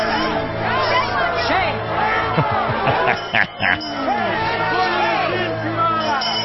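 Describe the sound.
A crowd of many overlapping voices in the street shouts and jeers continuously at a man, crying "Shame!", a loud dense babble with a brief dip partway through before the clamor resumes.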